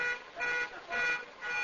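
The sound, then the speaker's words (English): A van's car alarm blares in a steady repeating cycle, its high-pitched tones pulsing roughly every half second, with no talking. “It's your van that's going off.”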